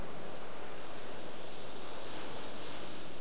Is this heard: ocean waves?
yes